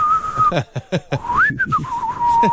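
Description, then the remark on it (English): A man whistles a short, bright tune while walking around a gym: a long held note, then a rising swoop and a few wavering notes, with intermittent soft knocking sounds in the background. “He started whistling as he was walking around the gym. Yeah, just whistling.”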